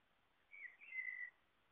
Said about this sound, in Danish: Jeg skelnede, kan jeg huske, dengang mellem fuglene, som man også vil kunne høre nu her i baggrunden.